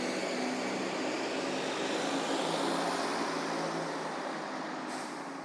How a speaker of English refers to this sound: I want to listen to see if this bus stops somewhere.